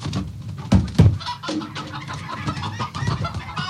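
A chicken clucks in short, agitated bursts, with a couple of louder squawks early on, alongside rustling and handling noises as the bird is handled to check its wings and feathers the way a poultry judge would.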